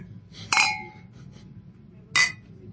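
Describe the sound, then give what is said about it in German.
Two bright glass clinks about a second and a half apart, each ringing briefly with a sharp metallic shimmer over a low background hum, as drinking glasses are touched together in a toast at the Zypresse. “Prost, die Dame, Prost, die Herren.”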